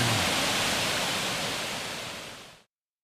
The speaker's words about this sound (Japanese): 優雅で美しい。 優雅で美しい。 地元の人は御滝とか、 はい、 あるいは二能の滝と呼んでいます。 あ、そうですか。はい。本当に綺麗な滝ですね。